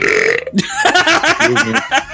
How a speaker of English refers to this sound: It was that burp. So edit, Steve, edit in the burp again right there.